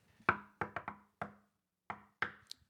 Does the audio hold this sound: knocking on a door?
yes